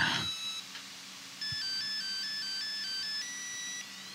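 A phone ringtone plays a simple repeating electronic melody of bright beeping tones, steady, with a brief click near the start and no voices.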